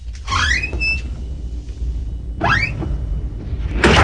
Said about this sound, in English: Do you have a sound effect button for the door?